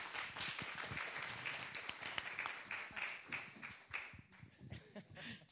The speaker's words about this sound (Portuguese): Salva de palmas, desculpa. Por favor.